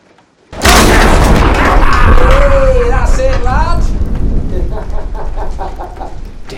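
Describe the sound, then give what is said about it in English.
A sudden, loud thunder crack bursts in with a heavy crash as a chair is smashed against a staircase, then rolls into a sustained, roaring rumble that slowly fades. A wavering, voice-like cry rises briefly in the middle. “Thunder cracks as Dom smashes a chair against the staircase.”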